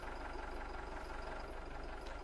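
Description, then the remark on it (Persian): A car engine idles with a steady, low rumble, continuous and even, with a constant hum and faint mechanical chatter and no voices. “صدا ماشینه.”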